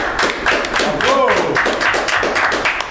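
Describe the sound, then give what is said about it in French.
An audience breaks into steady applause, a dense wash of many hands clapping at a constant loud level, with a brief voiced sound rising through the middle of it. “Je crois que vous pouvez l'applaudir, hein.”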